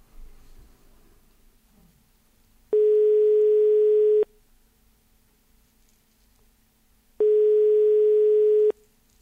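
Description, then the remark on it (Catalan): Two long, steady telephone ringback tones, each about a second and a half, separated by a pause of several seconds, heard over a quiet line with faint background noise, during an outgoing call to politicians busy with their campaign. “No sé si mos agafaran el telèfon.”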